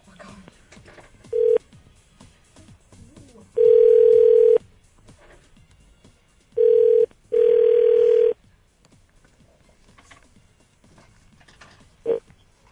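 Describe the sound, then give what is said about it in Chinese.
A phone's ringback tone sounds through the earpiece as a call is placed from a hospital phone to a boyfriend in Kaohsiung, in several steady, loud bursts, one short and three longer, separated by quiet pauses, with faint background murmur and a brief click near the end. “哦，没有啊，我在医院弄事情，然后就想说用医院电话打这样子。”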